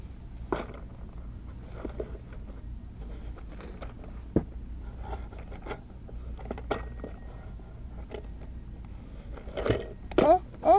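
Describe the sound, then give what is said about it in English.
A toy telephone rings in short electronic bursts among clicks and handling noises, with a louder cluster of ringing near the end, over a low background hum. “Hang up the phone.”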